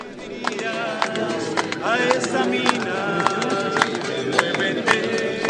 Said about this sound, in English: Here's the crowd at the San Jose mine this morning singing as the rescue operations got underway.